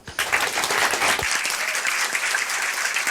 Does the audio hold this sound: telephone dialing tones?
no